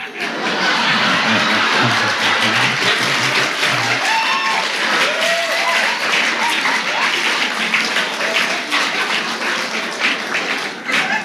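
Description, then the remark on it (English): A crowd applauds steadily for about eleven seconds, the applause coming from the back part of the audience, dense clapping mixed with scattered laughter and murmuring voices, fairly loud and sustained throughout. “That applause all came from the back part, not the Church of Religious Science.”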